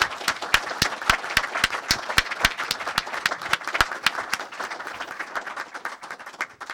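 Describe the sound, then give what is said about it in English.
An audience at a book forum applauds to thank the speakers, with dense overlapping claps and sharp individual hand strikes standing out, sustained at moderate volume and tapering slightly toward the end; no one speaks. “If you'd join with me for a hand of applause.”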